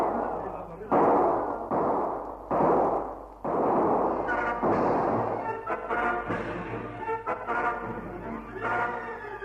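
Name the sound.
gunfire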